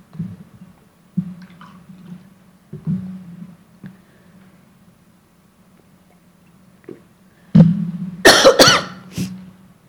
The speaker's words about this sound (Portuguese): Peço desculpa, vou ter que beber água.